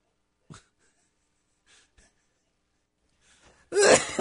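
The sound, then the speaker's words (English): A small, sharp cough and a few faint throat sounds, then a sudden loud, harsh burst of coughing and choking, with no talking. “Well, it was going to be a little cough that turned into like a big choke job here.”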